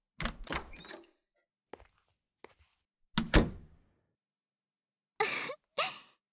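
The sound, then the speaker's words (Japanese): The door of a ground-floor apartment in a low-rise apartment building opening: a rattling thunk, a couple of small latch clicks, a heavier thump, then two short scraping swishes as it swings, with no voices. “ドア開けるわよ。”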